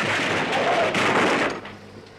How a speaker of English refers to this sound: Well, we got out of that just in time. The bus is a wreck. Smashed into a million pieces.